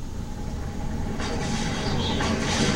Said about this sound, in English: Here comes the bus.